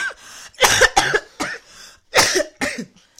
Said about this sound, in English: Like having a cough. Yeah. These coughs look way worse than they sound. And they sound bad.